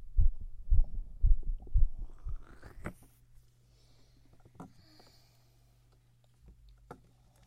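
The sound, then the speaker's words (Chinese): A young adult's fast, strong heartbeat, checked during a medical exam, thumps heavily and evenly, as if heard through a stethoscope, for about six beats before fading to a faint low hum with scattered soft clicks. “你的心跳一点问题都没有，我们可以来打针了。”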